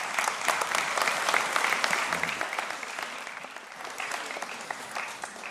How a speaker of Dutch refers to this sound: En als het applaus klinkt, Heer, dan ben ik daar dankbaar voor, maar het is voor u.